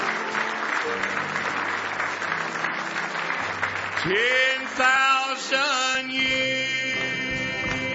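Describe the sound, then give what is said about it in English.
An audience claps loudly and continuously in praise for several seconds during a morning church service, a dense wash of many hands, before sustained musical tones and voices rise and take over as the clapping thins out. “Now give him one more hand clap of praise this morning.”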